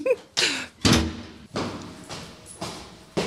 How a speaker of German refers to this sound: hei mockt ob die Tür